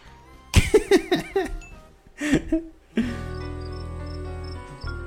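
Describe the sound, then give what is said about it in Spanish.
Short, high-pitched cricket chirps from a sound effect repeat at a steady rhythm over a low hum during the second half, after a burst of voice-like sounds near the start. “Y este grillo es para Kimberly.”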